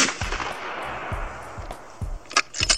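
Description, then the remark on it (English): A loud gunshot cracks and rolls away into a long, booming decay, then a spent shell casing drops and rings with a few bright metallic clinks near the end. No one speaks. “And if y'all haven't figured it out, it's a gunshot and the shell dropping.”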